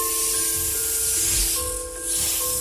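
The snakes of a snake woman hiss in a steady, breathy wash that runs unbroken for a couple of seconds, dipping briefly near the end, with faint sustained tones humming underneath.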